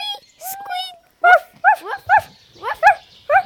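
A dog lets out a brief high whine, then barks in a quick, uneven run of about seven sharp yaps, loud and clear with short pauses between them.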